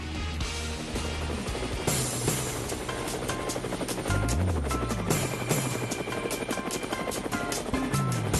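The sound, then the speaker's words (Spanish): Helicopter rotor blades chop loudly and steadily throughout, a sound effect on a Cuban radio show marking the 7:50 helicopter segment, a rapid continuous thudding beat, with no voices present. “Generalmente esta es la hora del helicóptero. Y ahí están las aspas anunciando que nos vamos”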